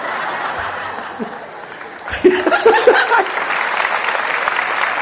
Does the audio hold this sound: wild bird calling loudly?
no